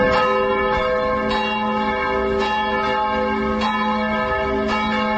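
church bells ringing

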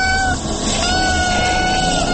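kitten meowing

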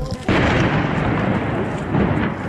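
explosion

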